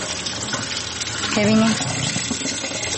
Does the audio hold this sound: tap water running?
yes